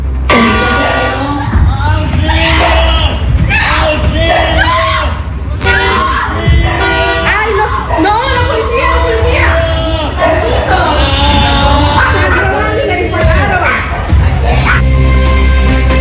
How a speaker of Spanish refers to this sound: Impactante y elocuente es el audio, ya que ustedes escuchaban los gritos de auxilio que estaba solicitando este adulto mayor, como lo decíamos, un hombre de 98 años, que no les importó para nada a los ladrones con el fin de obtener su objetivo